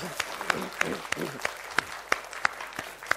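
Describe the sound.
A church audience claps together in a steady, fairly sparse rhythm at a worship service, thanking the members who prepared the service and God. The sharp individual claps ring out clearly, with faint murmuring voices underneath.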